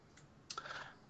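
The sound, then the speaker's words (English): Quick clacks of a computer keyboard being typed on while writing an email, a faint tap followed by a short burst of several keystrokes, with no voices. “I was just typing an email to this person because I'm anxious to get my BlizzCon ticket.”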